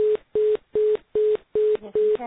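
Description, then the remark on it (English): Beeping on a call line: six identical, steady mid-low tones pulse in a quick, even rhythm, each short burst separated by equal gaps, loud and clear like a busy signal. “I hear a beeping.”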